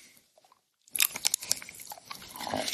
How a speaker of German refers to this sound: Und das ist ungefähr das, was ich jetzt hier mache, wenn ich ganz nah am Mikro gehe und in dieses Stück Schokolade beiße.